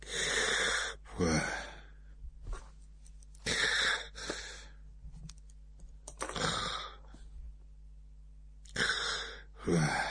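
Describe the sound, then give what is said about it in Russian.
A man sleeping on a couch snores in slow, regular cycles, four rasping inhales spaced a few seconds apart with quieter breathy pauses between them, fairly loud with no talking. “Храпел он.”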